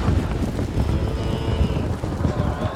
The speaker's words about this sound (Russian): А быки эти были такие злые, такие сильные, что никто к ним и подойти близко не смел. Замычали, заревели быки, опустили свои острые рога и побежали за чертенком.